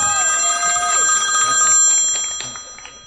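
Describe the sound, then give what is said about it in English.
A telephone bell rings steadily with a bright metallic trill, fairly loud, sustained over a few seconds with no voices over it. “I think that's your phone.”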